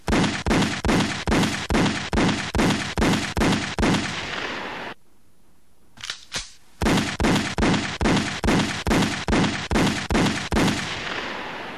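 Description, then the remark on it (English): Loud gunshots fire in a steady rapid series, break off into a brief silence with a couple of isolated shots, then resume in another even string of about ten blasts. “Now you know how many children die from gunfire on our streets every day.”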